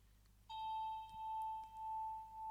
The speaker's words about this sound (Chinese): 这是我的钟声，我用它来召唤你进入恍惚的状态。在这个过程中，每当你听到我的铃声，就会感觉到自己在下沉。